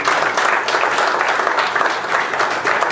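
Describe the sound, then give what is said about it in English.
A crowd applauds for God during a sermon, dense clapping from many hands filling the space at a loud, even level for the whole stretch without any voices standing out. “Give God a hand of applause.”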